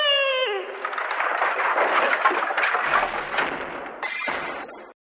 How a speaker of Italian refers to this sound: Ui, che volo! Sono andato a sbattere contro il guardrail e mi sono fatto un brutto taglio alla coscia.